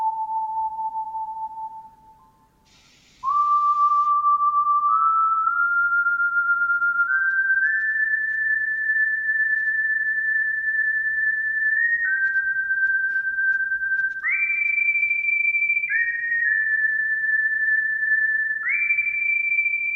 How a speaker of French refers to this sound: Nous allons entendre tout d'abord le point commun avec les deux versions, le sifflement dans la musique.